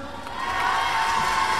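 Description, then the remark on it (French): A concert crowd cheering and clapping for the musicians, a dense sustained roar of voices and applause that swells slightly and stays loud throughout, with no one speaking. “Alors je vais vous demander le temps de faire des changements de guitare, tout ça, d'applaudir mes musiciens.”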